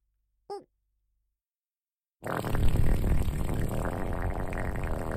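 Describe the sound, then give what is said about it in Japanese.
A brief, high squeaky fart pops out near the start, then after a pause a loud, steady rushing, hissy noise takes over until the end. No one speaks. “お姉ちゃんのおならおいしい？”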